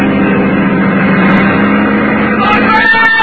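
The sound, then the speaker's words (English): A loud car engine roars continuously, its pitch climbing toward the end as it revs harder, with a dense rumbling drone throughout, during a car chase. “He called my name as his car came alongside, then began forcing me off the road.”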